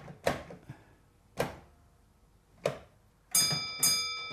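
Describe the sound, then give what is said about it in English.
A railway signal bell, rung by the signalman at the other end of the line to communicate, rings in a short code: three single struck dings spaced about a second apart, then two quick rings with a sustained high metallic tone, over a quiet background. “And that's the signalman at the other end of the line communicating with you.”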